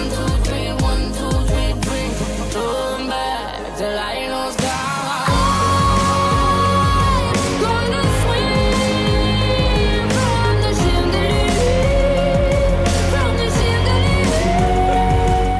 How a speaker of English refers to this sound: I was thinking, like, what song reminds me of screaming or just, like, what has it, like, a yelling to it? And then I thought, oh, what better than a song that mentions drinking and has screaming in it?